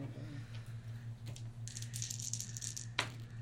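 dice rattling and rolling

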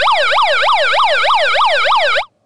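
ambulance siren

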